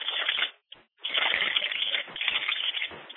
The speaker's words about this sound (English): One second, I'm pouring some water, you get that sound.